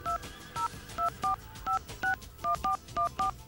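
A rapid sequence of about eleven electronic keypad tones, each a short two-pitch beep, punched in quick uneven rhythm as a phone number is dialed, clear with no speech.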